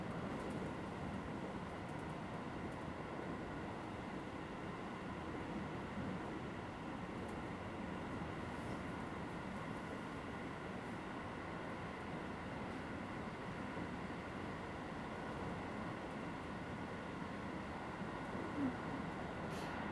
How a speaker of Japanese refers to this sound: ずいぶん空いてるね。ほら、あっち誰もいない。座っちゃおう。とこういう風にボックスシートに座って電車に乗るのはいつぶりだろ。なんか旅行って感じするね。